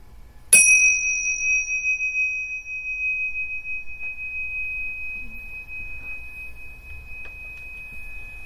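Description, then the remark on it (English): A single meditation bell is struck once to end a meditation, its bright, clear tone ringing out and slowly fading over several seconds amid otherwise quiet surroundings. “And when you hear the bell, you can slowly open your eyes and we'll end the meditation.”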